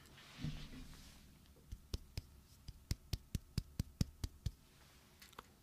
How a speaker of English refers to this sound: By the way, look how shiny my bald head is today. It's like super butter smooth. It's ridiculous. Hey, do you guys want some? Do you want some bald head ASMR slapping sounds?